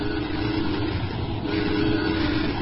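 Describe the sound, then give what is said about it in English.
A fast-approaching train with its headlight on, in a Lone Ranger radio drama, roars past in a steady, loud rumble with a rattling mechanical clatter, dense and continuous throughout, with no voices. “The headlight of a fast approaching train revealed the Lone Ranger, working desperately to cut the rope that held his alien friend Tonto to the green rails.”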